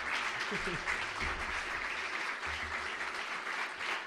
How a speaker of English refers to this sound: No, don't clap. It makes me really nervous.